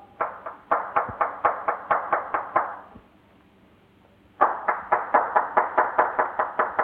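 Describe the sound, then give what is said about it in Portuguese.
Insistent hand clapping by a builder at the entrance door of a residence on the Fazenda da Posse, in two quick, steady bursts of about a dozen sharp claps each, separated by a pause of silence. The claps are loud, with no voices. “Depois de bater insistentes palmas, foi que se abriu a porta da entrada e então uma senhora pergunta.”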